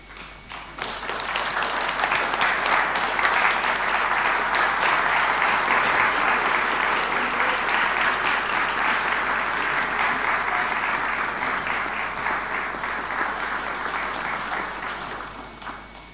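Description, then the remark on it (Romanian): A church audience breaks into sustained applause for a baby girl presented to the church by her parents, a dense, steady wash of many hands clapping at full volume for about fifteen seconds before tapering slightly at the end. “bine ai venit în lumea noastră și aș ruga părinții să o prezinte bisericii și să o aplaudăm încă o dată.”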